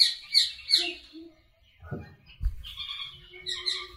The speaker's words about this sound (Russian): Вот это вот звук, это попугай. Вот это попугай.